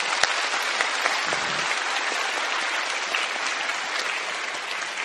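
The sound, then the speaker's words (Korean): A church audience claps steadily for the full five seconds during a worship service, a big round of applause to encourage the next generation of preschool children and youth. A dense wash of many hands with no pauses, loud and even throughout, with no talking heard over it. “오늘 또 지구촌의 다음 세대 미취학 어린이 청소년들도 함께 예배를 드리고 있는데, 우리 다음 세대를 향하여서 우리 큰 박수 격려합니다.”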